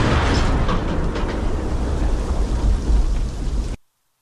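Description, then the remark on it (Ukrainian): A loud artillery gun firing a shot, its deep boom spreading into a long, rolling, thunder-like rumble that holds for several seconds before cutting off abruptly. No one speaks. “Постріл!”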